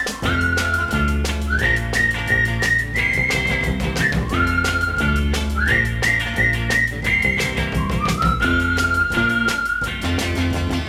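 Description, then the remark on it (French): A bright, clear whistled tune, a friends' call whistled in the street to call a friend, carries a bouncy melody of rising and held notes over a steady, rhythmic instrumental backing that runs throughout. No one speaks. “Pour l'appeler, il emploie un truc qu'ils ont mis au point, le sifflet des copains.”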